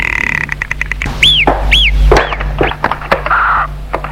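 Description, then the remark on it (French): A car's front passenger door is opened by a barn on a cold day: a series of latch clicks, a couple of rising squeaky creaks and a soft thunk, all over a steady low engine hum. “J'ouvre la porte du passager avant.”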